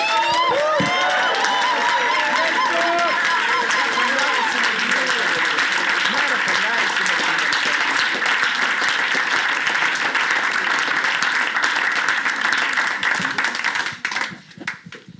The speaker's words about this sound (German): Oh, liebe Leute, lass uns Jesus nochmal einen tosenden Applaus geben.